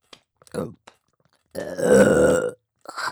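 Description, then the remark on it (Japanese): A single loud, drawn-out burp lasting about a second, close to the mic, with brief breathy vocal sounds just before and after it. “またゲップが出ちゃいます。”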